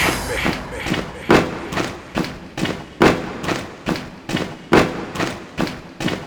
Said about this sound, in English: Are you deaf? I said stomp with me. I said stomp with me.